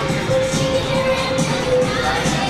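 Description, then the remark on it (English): A big crowd in a basketball arena murmurs and chatters at halftime of a Pioneers vs. Irish game while a dance routine is performed, a steady, dense wash of noise with a faint sustained tone running through the middle; no single voice stands out. “Wee Kicks out there performing a dance routine here at halftime, and it is a big crowd here.”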